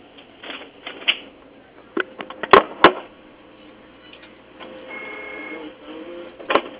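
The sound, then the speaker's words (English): A printer runs in fits and starts, with whirring feed noise, a few sharp clacks and a straining mechanical buzz, as paper gets stuck. Muffled, with no talking. “You got my paper stuck.”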